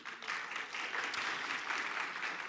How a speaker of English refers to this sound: There goes the applause again. Like I do, I never get the applause. No, I'm just kidding, of course.